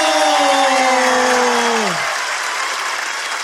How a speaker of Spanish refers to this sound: Señores y señores, Hablando Huevadas Producciones presenta para todo el mundo y para todas las personas de YouTube, este público maravilloso que con un fuerte aplauso calienta el escenario